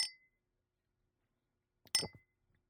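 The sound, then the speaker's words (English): A drinking glass clinks twice as it is picked up during a gin tasting: a short ringing tap at the start and a fuller knock with a bright ring about two seconds later, fairly quiet, with silence between. “And in fact, I'm going to go back to the glass for a second.”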